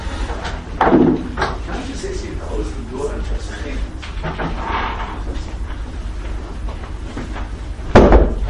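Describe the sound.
A door is opened, with a dull thump near the start and a sharper knock or latch sound toward the end, amid a murmur of room noise and faint background voices.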